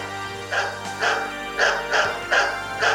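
A dog barks repeatedly, six sharp yaps in a steady rhythm about half a second apart, clear, with no one talking.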